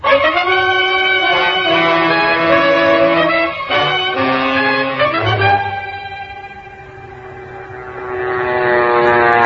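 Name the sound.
airplane in flight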